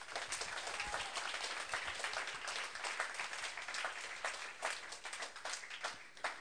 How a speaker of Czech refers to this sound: Takže díky moc, pojďme jim zatleskat.